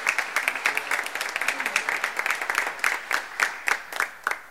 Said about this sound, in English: How many people are appreciative of the birth of our Savior? Amen? Amen. How about let's give Jesus a hand clap of praise? Amen. Amen.